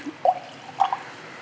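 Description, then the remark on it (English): Two small drops of water land in a glass of spirit about half a second apart, each a soft bright plink with a short watery tail, in otherwise quiet surroundings. “I'll put a little bit of water in it.”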